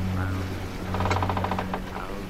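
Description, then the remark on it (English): A low, ominous musical chord from a film score sustains steadily throughout, while a quick series of light ticking clicks from a rod on a boat at sea rattles over it in the middle before fading. “Back into the pole. Low ominous chord.”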